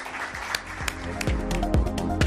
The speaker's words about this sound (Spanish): Sé que esto no es costumbre en esta casa, pero hoy les pediría un fuerte aplauso para todos ellos.